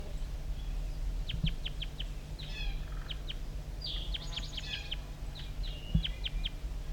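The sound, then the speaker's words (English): A wild bird calls from near the bottom of a hollow in quick bursts of sharp, high chirps and short trills, repeated in irregular groups over a steady low rumble, with no voices. “Sorry, recording the wild bird still around here calling over near the bottom of the hollow.”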